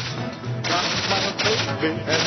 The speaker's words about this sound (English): That clack, clack, clack is machine gun fire.